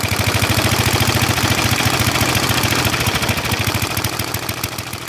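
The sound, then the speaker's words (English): A single-cylinder motorcycle engine idles steadily, its thump repeating in an even, rapid beat with a rough mechanical rattle layered over it, loud and continuous throughout. “And a single, having only one cylinder, is kind of a steady beat.”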